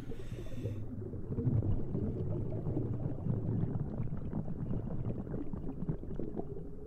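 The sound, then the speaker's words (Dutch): Underwater bubble trails from a diver, heard along with the diver's own breathing in dark, still water: a steady, muffled low gurgling rumble broken by irregular bubbly bursts and pops, continuing throughout without any voices. “Dus de ademhaling, je bellenbanen, dat hoor je.”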